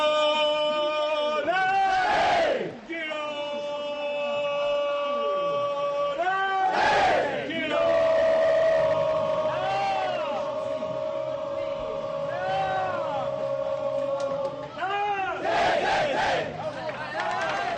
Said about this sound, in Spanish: Vestuarios peculiares, porque aquí hay grito en el de Girona y en el Atlético hay el rezo del Padre Nuestro.